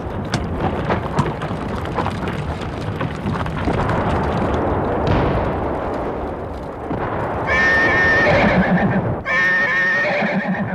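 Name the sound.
frightened horse neighing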